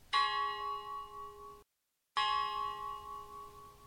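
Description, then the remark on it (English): Two tolls of large church bells, one lower and one higher in pitch, hanging side by side in a bell wall (campanario). Each rings out with a rich, shimmering tone that slowly fades, separated by a short silent pause. No voices are heard. “The lower pitch sound signals the loss of an adult, while the higher pitch tolls the loss of a child.”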